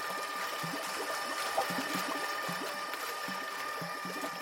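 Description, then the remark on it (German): A stainless-steel stirrer, a shiny geometric body about the size of a rugby ball, rotates rhythmically about itself in a water tank about 1.5 metres high and 1 metre wide, creating a slight current: a continuous sloshing wash with soft, regular rhythmic pulses and a faint steady mechanical whine. No one speaks. “Mit rhythmischen Bewegungen dreht er sich um sich selbst und erzeugt dabei eine leichte Strömung.”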